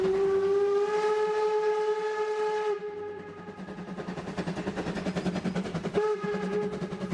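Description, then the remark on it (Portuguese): A steam train rolls along the tracks through the vineyard valleys of the Douro and Tua rivers with a rhythmic chugging clatter, its whistle sounding a long steady blast at the start and again near the end, loud, with no voices. “A viagem de comboio pelos vales das Vinhas e do Rio Douro decorreu sem problemas e o tempo parava ao percorrermos as paisagens dos vales do Douro e do Tua”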